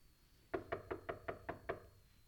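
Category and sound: impact, knocking on a door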